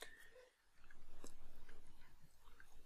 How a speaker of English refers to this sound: just take another little sipping of water